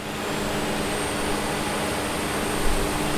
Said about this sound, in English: Help get lulled off to sleep at home while still enjoying the noise of that 40 kilowatt diesel generator that was located right next to your sleep tent while deployed the last 17 times.